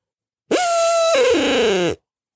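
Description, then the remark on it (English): A single loud owl hoot from a handheld ARO owl call, one sustained note about a second and a half long that wavers and slides downward at the end, heard alone with no talking. “That single note, again, listen, on their ARO owl call.”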